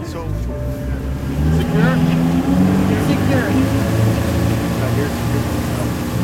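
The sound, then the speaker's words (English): A powerful motorboat engine on a 24-foot rigid-hull inflatable boat roars steadily, its deep drone rising and wavering as the boat speeds across the water, with wind and spray noise throughout. “The motor is powerful, and the boat goes at a fast clip.”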